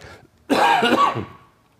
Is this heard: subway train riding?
no